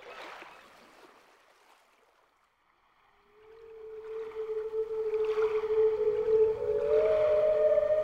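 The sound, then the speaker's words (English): Humpback whale song: after a faint watery hush, a long, low moaning call swells in and holds, then slides up to a higher note near the end over a soft underwater rumble. “A humpback whale, immensely long, who sang to the snail a wonderful song of shimmering ice and coral caves and shooting stars and enormous waves.”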